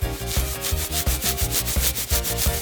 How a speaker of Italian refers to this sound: Gratta.